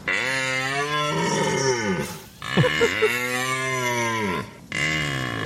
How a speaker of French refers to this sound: Est-ce que c'est Chewbacca de Star Wars? Est-ce que c'est un cerf? Ou est-ce que c'est une vache enrhumée,